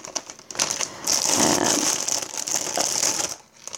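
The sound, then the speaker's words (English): Continuous crinkling of a plastic zipper bag being handled and filled with leftover vegetables, with rustling bursts over about four seconds and no talking. “So I'm going to just put the rest of my veg into one of these zipper bags.”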